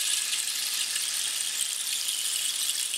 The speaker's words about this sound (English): So you can extend the duration of the rain stick by holding it at a lesser angle and rotating it.